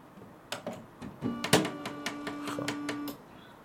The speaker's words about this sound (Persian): خب من باید پرینترم رو یک کاری کنم که ارور بده و مثلا در جا کاغذیشو باز میکنم، انبار کاغذیشو. حالا پرینتر رو روشن میکنم.